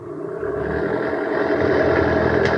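A car engine runs steadily and builds slightly as the vehicle pulls away, a fairly loud, continuous rumble with no voices over it.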